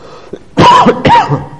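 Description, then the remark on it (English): A male preacher coughs twice in quick succession, two loud, harsh bursts with a brief gap between them and no talking. “And you probably have told me 100 times you hate to hear a preacher that's coughing, don't you?”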